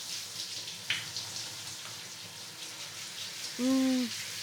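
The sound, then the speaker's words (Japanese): Shower water runs in a steady, even hiss from start to finish, with a brief click early on and a short tonal hum near the end, as the shower temperature is adjusted so it will not be too hot at an esthetic salon chair with a mirror and washbasin. “熱くないようにシャワーの調整してるから。”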